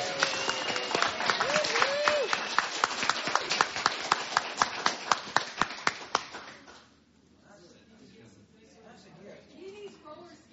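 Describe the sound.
A group bursts into a round of applause, dense steady clapping with some voices mixed in, thinning to a few separate claps before fading into a quiet murmur.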